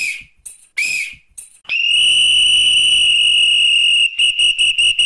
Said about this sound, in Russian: В этот день, в 1878 году, футбольный арбитр впервые использовал свисток. Это произошло на одном из футбольных матчей в Лондоне. Судить игру доверили полицейскому, и когда на поле возникла драка, он, не задумываясь, засвистел.